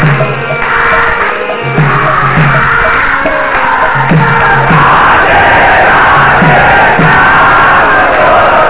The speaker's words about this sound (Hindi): तुम लोग ज्यादा चिल्ला रहे हो, चिल्लाओ नहीं, प्रेम से बोलना है, थोड़ा आवाज ऊंची करो।